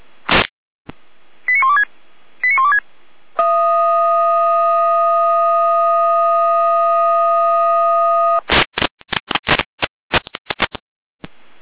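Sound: fire brigade alerting tones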